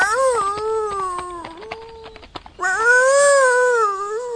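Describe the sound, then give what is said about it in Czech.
A hunting dog lying on a road howls mournfully in two long, wavering wails separated by a brief pause with some clicks, fairly loud, with no talking. “Jak si tak vykračoval silnicí, uviděl loveckého psa, jak leží na cestě a žalostně vyje.”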